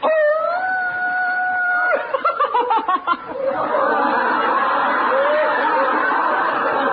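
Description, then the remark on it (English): A man's voice imitates a wolf howl, a long sustained tone lasting about two seconds, followed by bursts of laughter and then steady audience laughter and chatter. “Look, it's a wolf.”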